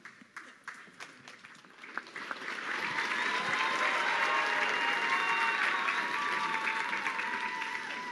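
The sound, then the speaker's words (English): An audience breaks into applause after a public reading of Scripture, cheering the reader. It starts with a few scattered claps that quickly swell into dense, sustained clapping with cheering mixed in, holding steady and loud to the end. “My guess is that cheer was for him and not for me.”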